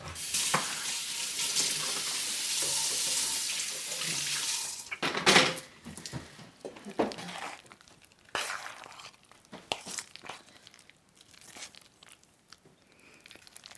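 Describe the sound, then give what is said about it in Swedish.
Running tap water pours steadily for several seconds with clattering of dishes as someone washes up, then the flow stops and scattered clinks and knocks of crockery follow. No one speaks. “Jag ska gå diska här bara så ska jag hacka.”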